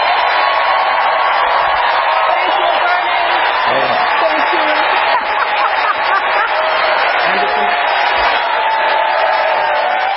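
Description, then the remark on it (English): A large audience breaks into sustained, loud applause and cheering for about ten seconds after Bernie Sanders says "Enough of the emails" in a political speech, dense clapping with scattered whoops layered over the roar of the crowd. “All right, Bernie Sanders with a huge applause after saying we've had enough, as you just heard there, of the emails.”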